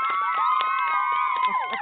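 A small crowd in a studio cheers and whoops with sustained high-pitched voices over scattered clapping after a topic presentation, loud and steady for about two seconds, with a few shouts rising near the end.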